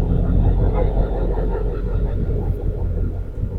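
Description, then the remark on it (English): A Ford F-350 diesel pickup truck engine idles with a deep, steady rumble, a loud low-pitched drone that holds for the full few seconds with a slight rough throb. “It's an F-350 diesel.”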